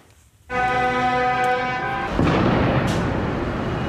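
A loud, sustained car horn blares for over a second, then gives way to booming firecracker bangs and a dense roar of outdoor noise, all loud, at a farmers' protest in Brussels.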